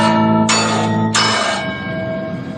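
The Carillon d'Europe of the radio station Europe 1 (Europe numéro 1) rings out on the hour. Its bright electronic chime gives two struck tones in quick succession, with rich sustained harmonics that linger and fade. The device was put in use at the station's launch in 1955 and was linked to a clock.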